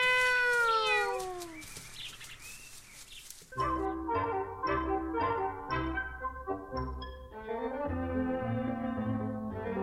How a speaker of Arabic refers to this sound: مياو، أمي تبعث عنك يا قطقوط، هيا تعال معنا. مياو، هيا يا قطقوط، أمي قلقة عليك، هيا تعال وعد معنا.